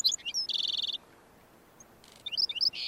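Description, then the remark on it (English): A black-throated sparrow sings from thorn scrub in the desert: a few high, clear notes and a quick bright trill, a brief pause, then more sharp notes ending in a buzzy trill, with no one talking. “Here, a black-throated sparrow sings from the thorn scrub.”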